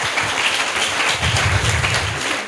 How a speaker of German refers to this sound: Danke. Ja, einen Applaus.